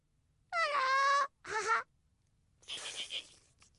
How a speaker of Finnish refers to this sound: Hei, mikäs ääni sieltä kuuluu? Ahaa! Hei, delfiini! Delfiini haluaa sinut leikkikaveriksi.